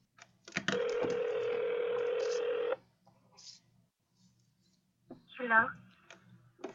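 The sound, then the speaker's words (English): A phone call being placed to return a call about a house for rent: quick clicks of dialing, then a steady two-second electronic ring tone, a pause with faint clicks, and a brief voice near the end. “Okay, let's give her a call back. Maybe … will answer the phone.”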